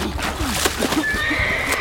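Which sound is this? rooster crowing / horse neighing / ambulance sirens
horse neighing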